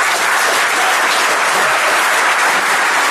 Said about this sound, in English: So a round of applause for our first time speaker.